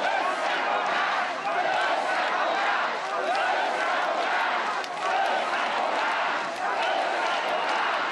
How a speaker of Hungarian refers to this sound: Az MSZP elnöke hosszú ideig nem tudta elkezdeni a beszédét. A tömeg hosszasan azt skandálta, összefogást.